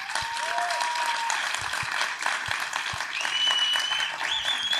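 An audience applauds steadily, a dense wash of clapping holding a fairly even level throughout, with faint whistles or cheers rising above it.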